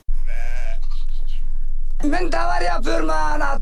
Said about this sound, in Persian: مالداران ترکی رمه های گوسفند خود را به وی می سپارند تا بچراند.